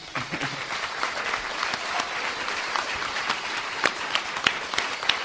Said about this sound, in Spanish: Y también pido, por favor, al público un aplauso para nuestro maravilloso técnico de sonido que está ahí arriba procurando que todo funcione bien.